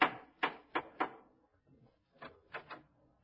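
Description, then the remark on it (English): Gracie Allen raps her knuckles on the wooden door of Herbert Marshall's house: four firm knocks, a short pause, then three softer knocks in quick succession. No voices, just the hollow taps. “She knocks at the door.”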